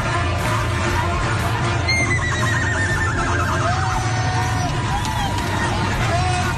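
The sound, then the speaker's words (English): A young woman lets out a long, loud, horse-like whinny that rises and quavers down, ringing over a dense roar of crowd noise and babble at an Oklahoma football game. “They have a horse at an Oklahoma game. No. It's not a horse. It's a girl. She is forever known as Horse Girl.”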